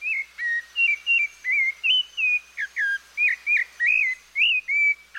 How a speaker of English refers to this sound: It's a rufous-bellied thrush, a near look-alike of our robin.